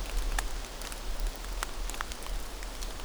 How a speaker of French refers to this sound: Des feuilles. Ou des gouttelettes d'eau. Lisse. Perles de pluie, nuages de brume, vent qui bruisse